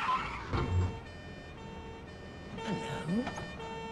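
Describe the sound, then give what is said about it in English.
A car engine swells as the vehicle drives past an alley, fades briefly, then rises again with a whining, shifting pitch as it reverses back to the alley. “Kane drives past the alley, then reverses back when he spots their car.”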